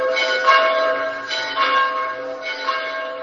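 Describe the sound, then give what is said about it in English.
Church bells toll steadily across Poland for the death of Pope John Paul, with rich, ringing overtones, strikes arriving roughly every second and their tones blending into a continuous, resonant wash. No voices are heard. “Across Poland, church bells are tolling as thousands of the faithful hold vigils for John Paul, the Polish-born priest who came to lead the billion-member Catholic Church.”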